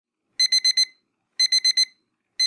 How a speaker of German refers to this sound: Früh am Morgen, der Wecker klingelt. Es ist kalt, man quält sich aus dem Bett.